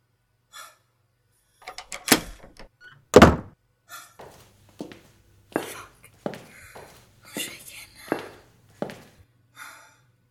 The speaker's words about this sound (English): Now, let me lock the door again and leave us alone.